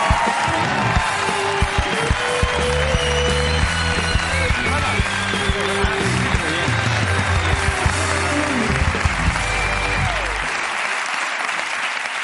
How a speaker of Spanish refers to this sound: En concreto ha venido uno de ellos. Un aplauso para Javier Fernández de la Resistencia.